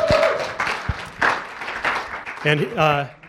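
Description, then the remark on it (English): A crowd claps steadily in a dense, crackling burst of applause for a man coming out of the sound booth to join the speaker, with a voice speaking briefly over it near the end. “You can applaud for him as he comes through.”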